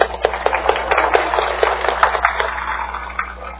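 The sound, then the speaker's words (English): An audience claps together in a dense burst of overlapping hand claps that holds steady for about two seconds, then thins out and fades to scattered claps. “Yes, we'll clap.”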